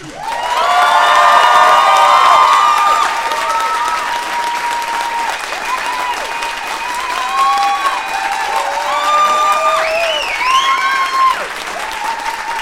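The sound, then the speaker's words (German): A crowd bursts into loud, sustained applause with cheering, whoops and high-pitched shouts rising over the clapping throughout, staying strong for about twelve seconds with no speech. “den größten Applaus, den ihr je veranstaltet habt”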